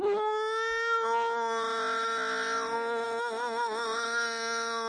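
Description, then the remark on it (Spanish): A person yowls like a cat in heat, one long, loud, nasal wail held for several seconds that wavers and trembles toward the end, with no other sounds around it. “A ver, ¿cómo es la guitarra? Es como el gato en celo.”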